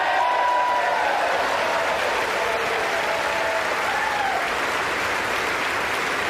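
Sustained applause in the U.S. Congress after McCarthy pledges that the first bill will repeal funding for 87,000 new IRS agents, a dense steady wash of clapping that holds at an even, fairly loud level for about six seconds, with faint crowd murmur beneath; Democrats are not clapping.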